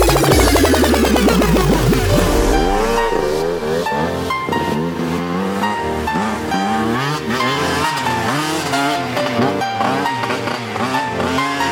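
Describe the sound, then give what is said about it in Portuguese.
Loud race car engines rev and roar continuously, pitch sweeping up and down, with squealing tires cutting through the mix; no one speaks. “Sons automotivos, carros e pilotos.”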